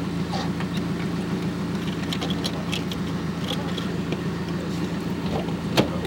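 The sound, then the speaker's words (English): A car engine idles steadily with a low, even hum, broken by scattered clicks and light knocks, then a sharper thump near the end, as two women get into the car. “Well, y'all want a party? You wanna get in my car? Sure, why not?”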